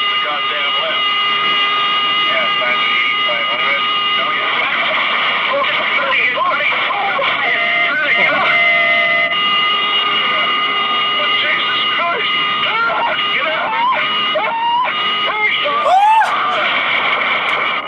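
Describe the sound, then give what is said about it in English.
A cockpit alarm sounds steadily through a muffled, radio-quality recording from a crashing plane, its sustained tones running the whole time while voices talk over it amid engine and cabin noise. “The alarm's going off, and then he's like, no, we're going down.”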